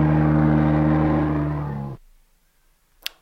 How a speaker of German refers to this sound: Aber ist es ein Elch? Also die Option ist nur Elch oder Mensch? Elch oder Mensch? Ich sag Elch. Natürlich richtig. War ja relativ einfach, aber ich fand den Sound sehr interessant, weil krass. Ja. Klingt wie ein Dinosaurier oder so.